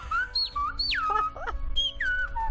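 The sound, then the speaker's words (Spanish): Silbo Gomero whistled language: a single loud, piercing whistle gliding up and down in quick, speech-like phrases, with rising and falling pitch contours and brief breaks, without talk. “Aprendiendo le silbo está gomero.”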